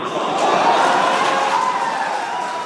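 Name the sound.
crowd cheering wildly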